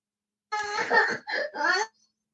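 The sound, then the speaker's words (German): A young child cries out in three short, whimpering bursts, high-pitched and strained, lasting just over a second with no talking around it. “Jetzt kommt alles zusammen. Husten, Schnupfen, Kindergeschrei, alles.”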